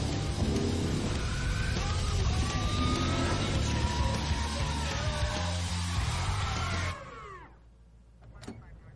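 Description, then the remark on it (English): A loud, roaring car engine revs for about seven seconds, with squealing tyre skids sweeping in and out before the noise cuts off abruptly into near quiet. “Car. Skids. Police.”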